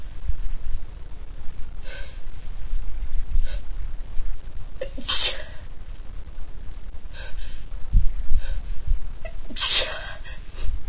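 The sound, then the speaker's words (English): Several small, sharp sneezes burst out at irregular intervals over a steady low rumble of background noise, with a soft snort or sniff in between. “And I love those little sneezes on there.”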